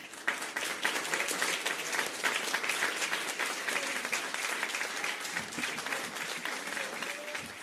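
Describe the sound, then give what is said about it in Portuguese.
An audience breaks into warm, sustained applause for the researchers searching for a medicine and a vaccine against the virus, a dense wash of many hands clapping that holds steady and loud for several seconds without fading. “Esta sim, a única maneira de vermos o vírus deixar de causar pandemias, que vai o nosso mais caloroso aplauso.”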